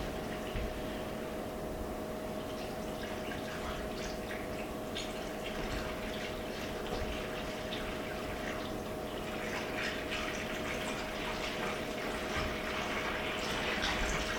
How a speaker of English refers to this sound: So we've got some water here. And we're going to fill it up.